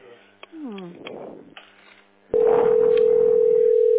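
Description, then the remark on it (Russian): A steady, unbroken telephone dial tone, heard while someone tries to get through by phone, switches on abruptly halfway through and holds at a constant loud pitch, after a stretch of quieter talking voices. “А ты не можешь вот этот телефон добрать?”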